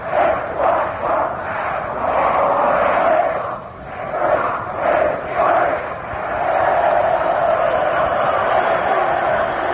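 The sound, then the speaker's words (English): A large Notre Dame football crowd cheers in unison during a time-out in the first period of the Army vs. Notre Dame game at Yankee Stadium, heard from across the field: a rhythmic rolling chant that swells and dips in waves, loud and sustained with many voices blending into a continuous roar. “Here's a Notre Dame cheer from across the field with time off.”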